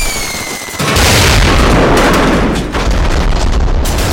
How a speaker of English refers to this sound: Hit the deck and take cover from earth-shattering, ear-splitting explosions.